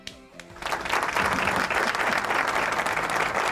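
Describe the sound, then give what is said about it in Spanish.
A brief voice at the start gives way to loud, sustained audience applause, a dense wash of many hands clapping that holds steady to the end. “gente, aplausos, por favor.”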